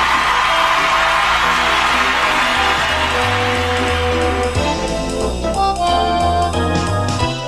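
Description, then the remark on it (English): An enthusiastic crowd of 60,000 people at the Allstate Strong Skyline Studio cheers and whoops loudly and continuously for several seconds, a dense roar of many voices with steady, tonal sounds like music running underneath. “Another enthusiastic crowd.”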